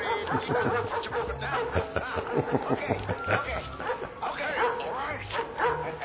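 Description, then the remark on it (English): A black shepherd dog barks repeatedly in loud bursts with a few whimpering yips, while people talk and chuckle underneath throughout. “Well, I had lost my dog, oh, but right. It was a black shepherd.”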